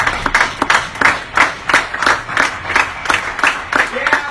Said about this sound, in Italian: E facciamo un applauso a tutte loro.